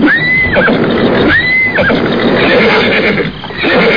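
A horse neighs twice in loud, shrill whinnies about a second apart, over a steady rumble of background noise, with no voices present.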